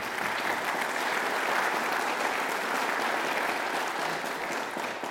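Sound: audience applauding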